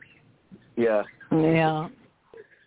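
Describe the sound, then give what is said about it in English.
A cockatiel gives two loud, drawn-out squawking calls, the second longer than the first, with a few faint high chirps before and after. “Is that the parakeet in the background there? It's a cockatiel.”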